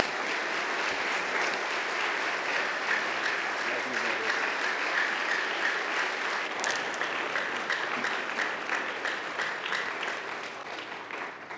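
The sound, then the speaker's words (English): An audience at a morning church service applauds to welcome a guest pastor, clapping steadily for about ten seconds in a dense, even wash of many hands that stays loud throughout and tapers only slightly toward the end. “Let's just welcome him by clapping our hands.”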